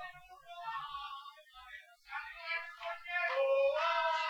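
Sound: cat meowing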